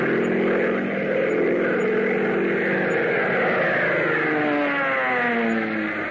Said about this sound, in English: Fellas, doesn't the roar of that plane give you a thrill?